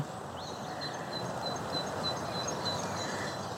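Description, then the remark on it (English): A blackbird sings faintly, thin repeated phrases drifting over a steady outdoor hiss of wind and rustling, with no voices, heard on a slow walk along a path. “Blackbird.”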